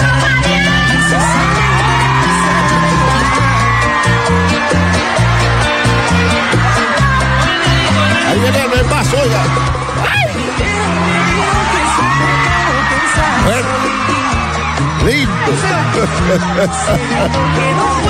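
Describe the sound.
A large crowd screams and cheers continuously and loudly as a woman goes up on stage, with whoops and shrill yells rising over a dense roar of voices and a steady low thumping beat underneath.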